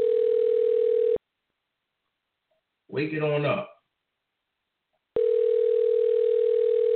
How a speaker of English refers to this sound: See if they answer here. Okay. Let it ring till it go to the answer machine. Okay. Well, they ain't answering.